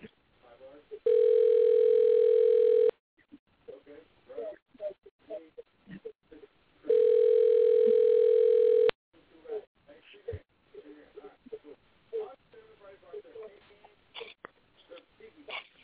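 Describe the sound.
A phone line rings twice as a call is placed to bring a guest onto a show, each ring a steady two-second buzzing tone, with a pause of several seconds between them filled by muffled voices and background chatter.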